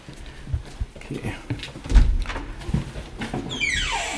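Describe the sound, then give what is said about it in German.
A door creaks open on a squeaky hinge that needs oiling, a drawn-out, descending squeal near the end, preceded by a few soft thumps and bumps of handling and movement, early in the morning before it is fully light. “Hier, müssen wir die Tür ölen hier.”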